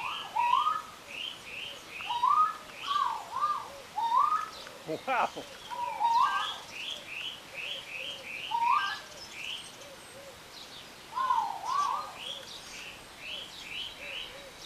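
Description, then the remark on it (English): Many birds call at once in a large aviary full of birds and trees, with repeated whistled chirps and soft cooing overlapping in a busy, spacious chorus, broken once by a sharp knock. “Even with just your ears, you can enjoy a lot of that and just envision being in the middle of this big place full of birds and trees.”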